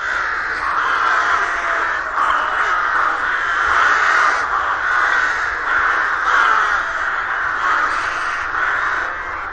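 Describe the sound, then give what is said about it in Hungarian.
A rook colony cawing, many harsh overlapping calls forming a dense, continuous chorus at steady loudness throughout, with no voices present. “Ez a madár, mivel vércse nem tud fészket építeni, és mivel kolóniában költ, csak a vetési varjú kolóniákba tud beköltözni.”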